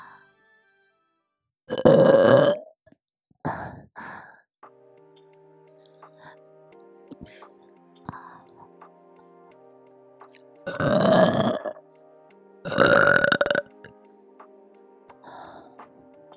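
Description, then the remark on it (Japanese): A woman, a mother, lets out several loud, drawn-out burps: two early, two more later, with quieter voiced sounds and a faint low hum between them. “久しぶりのママゲップ、嬉しい？”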